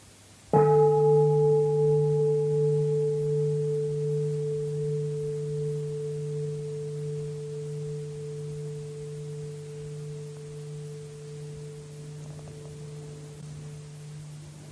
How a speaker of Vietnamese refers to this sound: con thỉnh chuông đi.